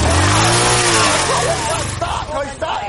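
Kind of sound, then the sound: vehicle, motorcycle engine revving loudly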